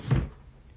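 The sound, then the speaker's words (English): A single short wooden thunk and slide of a dresser drawer holding lingerie being pulled open, fairly loud, then fading into quiet. “Ooh, this is her lingerie drawer.”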